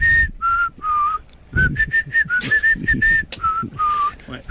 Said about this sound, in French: Voulez-vous que je vous siffle le premier hit?